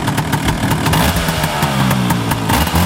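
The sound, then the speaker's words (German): A Vespa scooter is kick-started and its engine idles steadily, a loud, even putter with a buzzy mid-pitched drone and faint rhythmic ticking, running throughout with no voices. “Einmal treten und schon kann's losgehen.”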